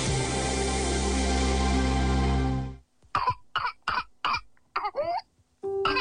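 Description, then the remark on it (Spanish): A sustained musical tone fades out, then an intense whooping cough (pertussis) fit: five or six harsh, rapid coughs in a row, broken by a strained, gasping inhale before more coughing. “La tos convulsa es una enfermedad contagiosa que afecta las vías respiratorias. Se caracteriza por una tos intensa que puede durar semanas y, en casos graves, causar neumonía, convulsiones o incluso la muerte.”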